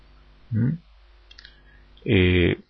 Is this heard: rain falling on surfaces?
no